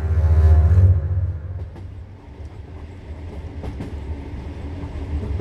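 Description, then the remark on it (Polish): A train travelling to western Ukraine rumbles along the rails with a steady low roar and occasional sharp clacks from the wheels, louder and droning at first, then settling into a continuous rolling noise. “Pociąg kilkakrotnie zmieniał kierunek jazdy.”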